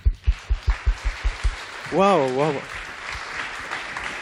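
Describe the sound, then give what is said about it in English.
An audience applauds to welcome a speaker before her talk on using radio spectrums for the Internet Commons, with a dense, steady patter of clapping. Rhythmic low thumps sound through the first second and a half, and a single rising-and-falling whoop rings out midway. “Let's give her a first really long, warm round of applause whilst the slides are coming up.”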